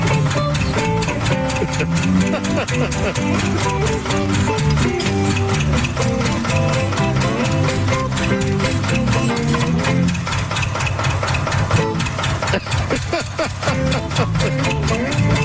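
A tractor engine chugs and idles steadily throughout, its rhythmic rumble used by a music group as the rhythm section beneath layered instrumental music, loud with no pauses.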